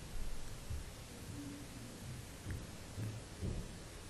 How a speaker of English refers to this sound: The storm is nearly here. You can see the rain beginning to hit the water.